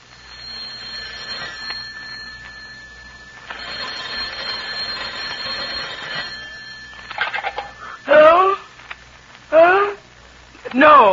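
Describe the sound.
A telephone rings in two long, buzzy bursts with a brief gap between them. It stops, and then a voice speaks a few short phrases.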